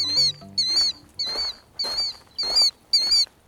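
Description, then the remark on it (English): A killdeer, a sentinel bird in its nesting territory, gives six loud, strident alarm calls in a steady series while flying around overhead, each a sharp, high-pitched cry repeated nearly twice a second, with no voices. “That's the loud and strident call of a sentinel bird. In this case, a killdeer.”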